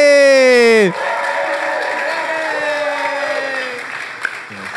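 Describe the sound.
Audience applause, a steady wash of clapping with cheering voices mixed in, follows a loud tonal sound that slides sharply downward in pitch at the start, then fades near the end.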